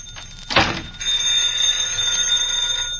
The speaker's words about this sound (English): Will you answer the phone, Gracie?